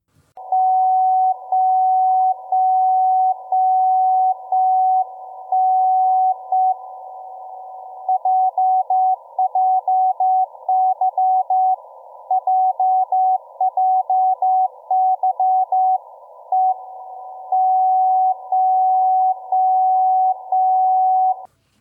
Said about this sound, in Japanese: ちゃんとね、15分と45分、この時間帯に、コールサインを2回打ってるんですよね、これはもう JJY のコールサインを打っているということでございましてね、音がですね、これは大高戸屋山というね、これは福島県でございますけど 40kHz、 こちらで受信した音をちょっと聞いていただけますでしょうか。